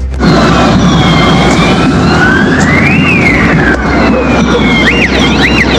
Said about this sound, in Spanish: Claro, podíamos escuchar ahí distintas sirenas y estruendos que se escuchaban, digamos, en estos enfrentamientos en plena Alameda, a la altura de Estación Central, producto de los distintos desmanes que se estaban desarrollando